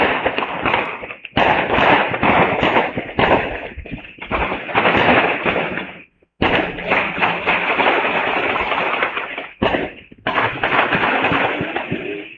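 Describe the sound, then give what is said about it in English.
Gunshots crackle in rapid, dense volleys of sharp bangs on Aurora Avenue North in North Seattle at night, loud and nearly continuous, broken by a few brief pauses before the firing resumes. “Not firecrackers, gunshots.”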